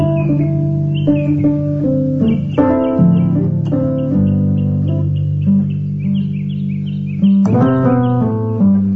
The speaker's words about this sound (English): The album is a suite of piano meditations that were inspired by and also feature bird songs.